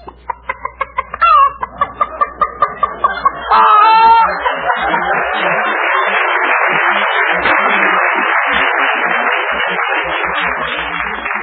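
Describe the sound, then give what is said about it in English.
A person imitates a chicken cackling, starting with a quick run of rhythmic clucks that swell into a long, loud, continuous squawking cackle, unaccompanied. “Can you cackle? You mean make a noise like a chicken?”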